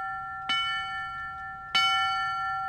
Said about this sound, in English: South Bend Mayor Pete Buttigieg was at the ringing of the bell ceremony at St. Patrick's Park this morning.